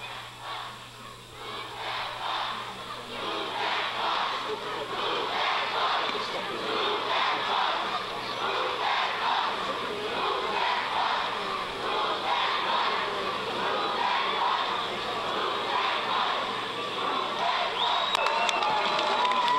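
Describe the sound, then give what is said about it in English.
A large crowd in Warwick roars, cheers and applauds continuously as a family arrives by limo to see their newly built house for the first time on Extreme Makeover; a dense wash of many voices shouting at once, steady and loud throughout, with no single voice standing out. “Is finally here, which everybody's applauding, and here's the big car by a limo.”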